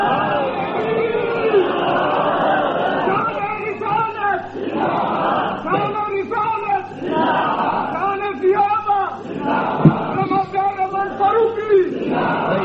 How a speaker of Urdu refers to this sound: یہ ضروری بات ہے، ابھی نعرے نہ لگائیں.